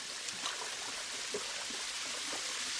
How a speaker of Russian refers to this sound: Закройте воду. Да закройте же воду. Закрой воду, дурак.